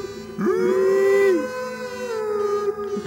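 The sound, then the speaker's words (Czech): A long, eerie creature howl rises and holds steady before sliding down and trailing off, followed by a fainter, wavering cry, coming from a chamber. It is fairly loud, with no talking. “A z komnaty tajemství slyšel podivný řev, křik.”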